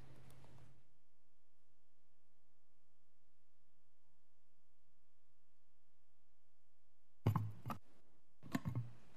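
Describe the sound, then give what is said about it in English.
Papers shuffled in two short bursts of rustling near the end, as someone gets ready to argue a case in court, after a long stretch of quiet hum. Fairly soft, with no voices. “I'm just going to be shuffling papers for one more minute here while I get ready.”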